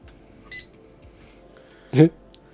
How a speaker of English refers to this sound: Firing up the drone here. It's about the size of... half the size of my cell phone. Yeah, it's pretty small. And it's got a camera on it. It's actually pretty cool. Now will it go? That's the question. Press buttons. Oh. It beeps a lot.